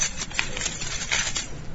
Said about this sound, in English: Does that sound excite you? Yeah, probably not. Why should it? But if you were a prisoner on death row, locked in a cell, and you knew that sound was the sound of the warden coming with the keys in his hand to set you free